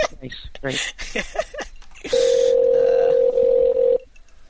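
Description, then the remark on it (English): A man talks briefly, then a loud, steady ringing tone of a phone call being placed sounds for about two seconds on its own before cutting off into quiet. “While the phone's ringing.”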